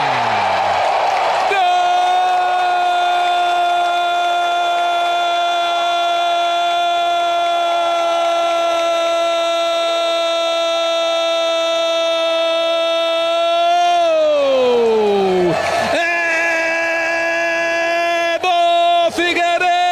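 A stadium crowd erupts as a goal is shouted when goalkeeper Wilson of Figueirense takes a penalty kick, one voice holding a loud, drawn-out cry for over ten seconds before it drops in pitch, with crowd noise roaring underneath.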